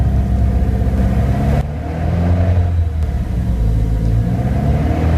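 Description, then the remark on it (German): A 2009 BMW 118i car engine runs steadily with a loud, low rumble, dipping briefly and then returning, with no voices over it and no distinct grinding standing out. “Also man muss vielleicht dazu sagen, es handelt sich dabei um einen 118i BMW, Baujahr 2009.”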